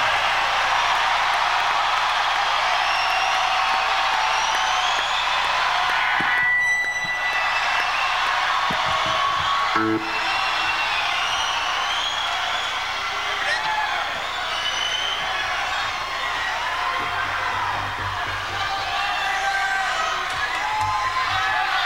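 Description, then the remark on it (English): A large crowd at a live music event, broadcast on 89.1 FM, cheers and whoops in a steady, loud roar that never lets up, with individual high whoops and whistles rising out of the din now and then. “Anyway, I'm just going to let you sit here and listen to the crowd.”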